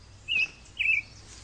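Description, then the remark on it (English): Two short, bright chirps from a small bird that has come to an empty bird bath with no water in it, evenly spaced about half a second apart, fairly clear against a quiet low background hum. “He's come to use the bird bath.”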